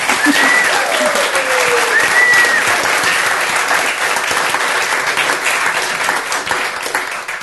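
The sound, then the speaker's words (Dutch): Warm, sustained applause from an audience welcoming a harpist, a dense steady clatter of many hands clapping that holds loud for several seconds before easing slightly, with a few faint whistles on top. “Mag ik daarom een hartelijk applaus voor ….”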